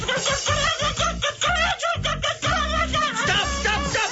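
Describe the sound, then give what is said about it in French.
A hen clucks and squawks frantically in loud, rapid bursts as it is mixed into a crêpe batter mixture, a dense and agitated flurry of cries that barely pauses, with a low churning noise underneath. “Vu dans quel état vous l'avez mise, je suis pas sûr qu'il faille mélanger une poule avec toute cette mixture afin d'obtenir une pâte à crêpes digne de ce nom.”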